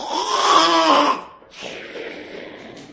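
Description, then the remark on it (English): A loud, rasping snore rattles for about a second, then after a short pause comes a softer, breathy hiss of an exhale that fades out. “Anytime you open that book, the snoring begins. Let the snoring begin.”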